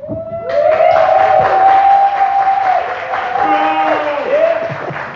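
An audience breaks into loud, sustained applause lasting several seconds, with high whoops and whistled cheers sliding over the steady clatter of clapping.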